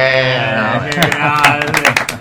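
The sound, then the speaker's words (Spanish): Audience applause breaks out: scattered sharp claps start after about a second and grow busier, layered over a sustained voiced tone that carries on underneath. “Prefiero un millón de aplausos.”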